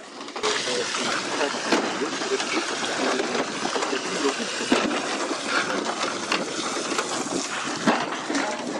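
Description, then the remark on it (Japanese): A steady rush of splashing water with frequent hard clattering impacts as harvested oysters, dripping seawater, slide down after workers cut the wires and drop into the hold of a transport boat, continuous for the whole stretch. “落ちた時もこの水しぶきとその柿殻がですね合わさって、その音がですね響き渡ります。”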